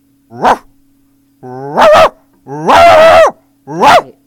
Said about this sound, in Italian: Cani piccoli.